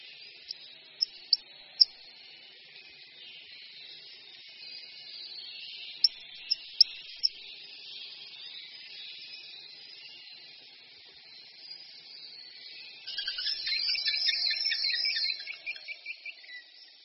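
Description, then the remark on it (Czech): Soft, high-pitched whistling and chirping calls of a Eurasian pygmy owl accompanying mating right beside its nest cavity, with a few brief sharp notes early on and a louder burst of rapid, twittering chirps near the end. “V těsné blízkosti dutiny probíhá také páření, které doprovází tlumené pískání a cvrčivé hlasy.”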